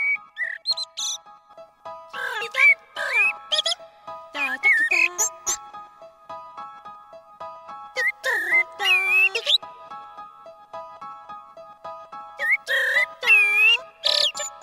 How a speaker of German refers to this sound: wie zum Beispiel einer Amsel, besteht aus vielen kleinen Abschnitten. Man kann auch sagen Melodien